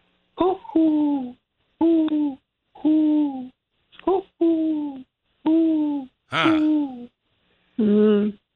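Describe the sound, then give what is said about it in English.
A mourning dove's soft, hollow cooing, repeated about eight times in steady, evenly spaced phrases, each note sliding gently downward; clear, with no one talking over it. “If it's daylight, I'm going to suggest it's a mourning dove, a soft cooing that goes like morning, that.”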